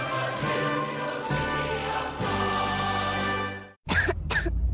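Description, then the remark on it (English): A child coughs twice in quick succession, fairly loud, in a DayQuil Kids commercial, right after a stretch of steady background music cuts off. “What about my cough?”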